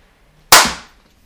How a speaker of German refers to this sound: Wir müssen klatschen.